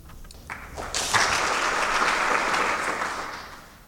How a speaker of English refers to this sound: You know, you have really not thanked the audience that they greeted you with applause. You smiled at them, but you really should thank them. I think they are terribly nice to do that before you sing.